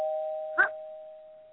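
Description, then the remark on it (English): A doorbell rings with a steady, sustained electronic two-tone buzz that holds throughout, fairly quiet, with a brief louder burst of a different sound cutting in midway. “But we've only got a few minutes left, and I keep hearing that damn doorbell.”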